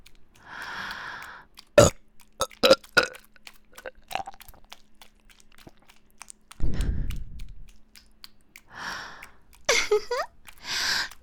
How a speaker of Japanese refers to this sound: ゲップ嬉しいんでしょ？